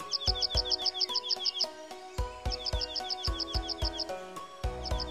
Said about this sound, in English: Seed bait and a playback of a junco's territorial song are commonly used to lure them into the nets.